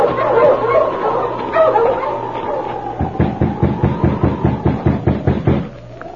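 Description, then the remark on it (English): A team of sled dogs barks and whines together as a driver halts them in the early morning at an isolated spot surrounded by birch trees, on snow in a fierce wind. The sound builds into a rapid, steady run of sharp barks that fills the second half before easing off, fairly loud. “A week passed, and then, in the early morning, at an isolated spot surrounded by birch trees, a driver halted his team of dogs.”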